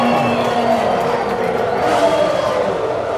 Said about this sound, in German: Ihr kennt das vielleicht, das Heulen der Motoren. Der Geruch von Benzin in der Luft, den Jubel auf den Tribünen.